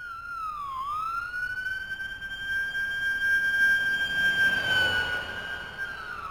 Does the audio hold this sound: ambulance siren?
yes